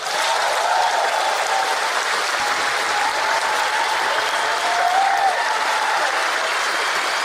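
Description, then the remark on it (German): Sustained applause from a large crowd lasting a whole minute fills the great hall of the Hotel Thermal in Karlsbad at a festival, a dense, steady wash of clapping that stays loud and even throughout without pausing. “Eine ganze Minute dauerte der Applaus für Michael Douglas im großen Saal des Hotels Thermal in Karlsbad.”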